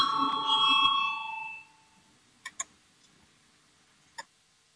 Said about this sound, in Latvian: Lūdzu, zvanu balsosim par 18. finanšu ministra Reira priekšlikumu. Lūdzu, balsosim.